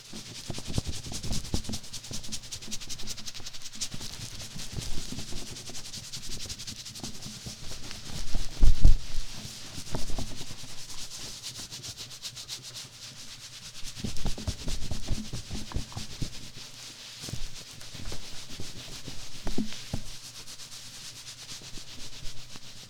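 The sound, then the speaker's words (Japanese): Soft, steady rubbing of a towel through hair, a continuous brushy hiss with gentle rhythmic swells and a few slightly firmer strokes, with no talking throughout. “髪をタオルで優しく拭いて。”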